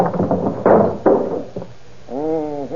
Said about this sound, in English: Hey, what are you trying to do to that door? Taking off the hinges? What for? You'll find out.